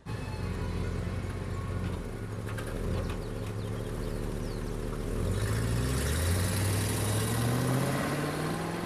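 car engine running

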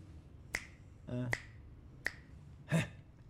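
finger snapping

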